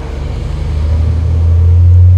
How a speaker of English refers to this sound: There's a feeling that you're no longer in West Virginia. Until a roaring logging truck drives by, a reminder that this is, in fact, still West Virginia.